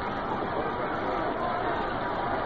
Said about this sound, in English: Now you can get the suspense of the crowd. Here they are, roaring on each pitch.